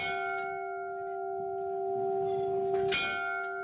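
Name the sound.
ship's bell ringing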